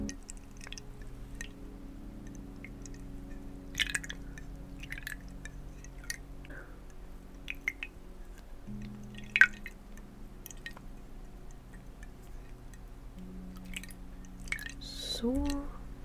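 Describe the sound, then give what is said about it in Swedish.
Water dripping and splashing in scattered, irregular bursts as a face is rinsed, with soft wet squishing sounds over a low steady hum. “Nu är ditt ansikte helt rent, så nu så ska vi bara skölja bort det med lite vatten.”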